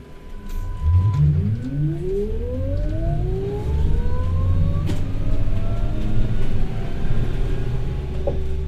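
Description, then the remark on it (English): A city bus in Wellington on a rainy spring day, bound for Newtown, rumbles as a passenger boards; its motor whine climbs steadily in pitch as it pulls away, over a constant low engine drone and street noise, with no one talking. “It was a rainy spring day in Wellington, and armed with my snapper card, I get on the bus for my first stop to Newtown.”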